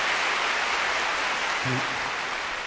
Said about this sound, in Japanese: 今日の仲間たちにどうぞもう一度盛大な拍手。